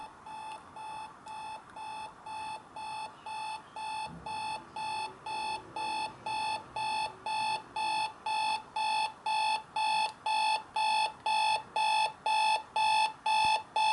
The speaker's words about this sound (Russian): Включаем будильник по зумеру. И сейчас продемонстрирую, как это работает. Ждем. Вот так вот работает зумер. Сначала тихо, потом нарастающе будет чуточку погромче. Такая вот особенность будильника.